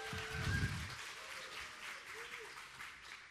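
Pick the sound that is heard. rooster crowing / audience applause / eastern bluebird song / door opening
audience applause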